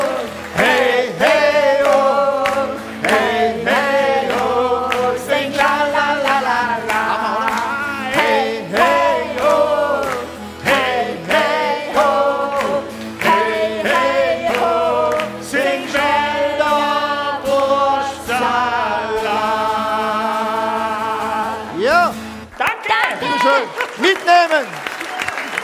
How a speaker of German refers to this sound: Applaus.